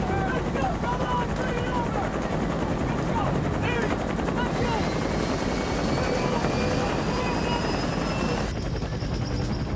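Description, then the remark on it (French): Loud, continuous helicopter rotor noise fills the whole scene, dense, with a steady churning roar and indistinct voices buried underneath, from helicopters waiting at a landing zone as soldiers hurry toward them. “Les soldats se pressent pour atteindre le terrain d'atterrissage où des hélicoptères les attendent.”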